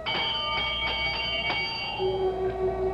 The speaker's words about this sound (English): I reach out and pull the bell.